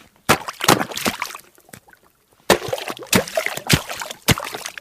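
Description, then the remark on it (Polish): Fairly loud water splashing and sloshing beneath broken ice at the bank of an ice-covered reservoir in the Notecka Forest, Poland, in two bursts of several sharp slaps each, separated by a short quiet pause, with no voices. “Jest woda.”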